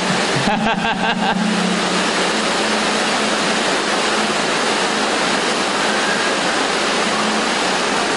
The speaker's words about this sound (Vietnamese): Cái này chắc mình phải xin Long Thiên Hộ Pháp tạnh mưa cho mình một vài chục phút để nói chuyện, chứ mưa ở đây nói chuyện đâu có nghe, phải không?